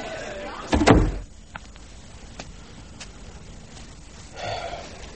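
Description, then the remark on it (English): A door opens with a short, heavy clunk and rattle, followed by faint scattered clicks, then a soft scraping rustle near the end, as someone slips out into the night. “Ah, door's open. Slip out into the night,”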